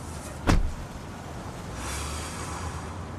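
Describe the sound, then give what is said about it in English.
A single solid thud as a woman climbs into a car and shuts the door, followed by a steady low cabin rumble and soft rustling with no voices. “She takes off her handbag and shuts the door.”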